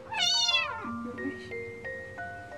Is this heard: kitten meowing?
yes